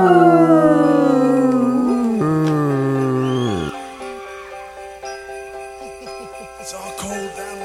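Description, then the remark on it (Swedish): Several voices howl together like wolves, long loud wails sliding downward in pitch for a few seconds, then fading into softer sustained tones with a faint jingling in the background. “Och så ylar vi på det.”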